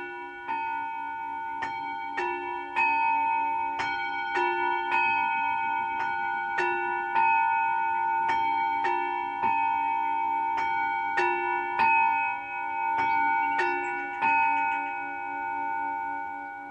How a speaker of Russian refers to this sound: Для этого у меня имеется мини-колокольня, сейчас я вам на ней сыграю. Это называется тибетские чаши.